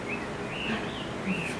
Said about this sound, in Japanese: これ鳥だったかもしれない。 そうですね。 もしかしたら。